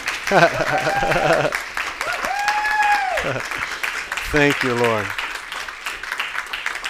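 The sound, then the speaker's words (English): An audience claps in thanks to God in a dense, sustained wash of applause while a man's voice speaks and sings out over it in long, drawn-out phrases. “Come on, clap like you're happy God did something.”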